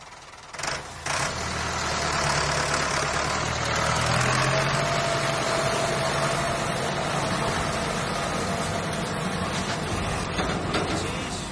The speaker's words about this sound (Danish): Hov, der er en traktor.